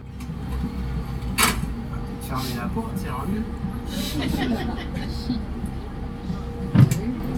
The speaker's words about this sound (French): Fermez la porte, c'est un mieux.